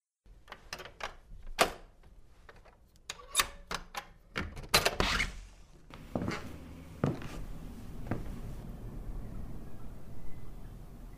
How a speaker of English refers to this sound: If you'll hold the lamp, sir, while I unlock the door.